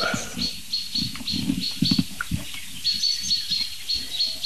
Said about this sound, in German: Also, so ein bisschen vom Gefühl her klingt es wie eine Eule.